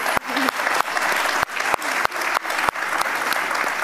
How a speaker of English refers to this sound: And yesterday, you announced the launch of the new spectacles. Can we get a round of applause, everyone? And not only that, everyone here gets spectacles, so also a round of applause for that.